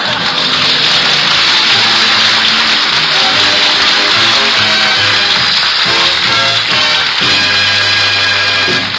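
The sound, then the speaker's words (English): A loud, steady rush of hot water pouring from a tap for washing a pile of dishes, continuous from start to finish, with low droning, groaning tones running beneath the splashing. “Would you turn on the hot water”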